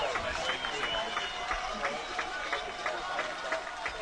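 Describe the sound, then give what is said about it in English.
A large football crowd on its feet roars and applauds the Titans' 54-34 win over Pontiac Notre Dame Prep, the defending Division V state champions, in a dense, continuous wash of noise, with scattered clapping bursts rising through a steady din that holds its level throughout. “And 14 seconds, crowd on their feet. This win deserves an ovation.”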